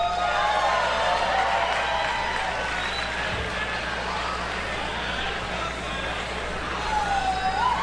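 Loud, steady applause from an audience fills the whole stretch, a dense wash of clapping with a few cheers and whistles rising above it, and no clear speech.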